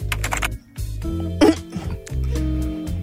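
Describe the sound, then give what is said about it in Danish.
A person coughs repeatedly in harsh bursts, several rough hacking coughs in a row with a brief pause, fairly loud with no talking. “Du er en rigtig hostebob.”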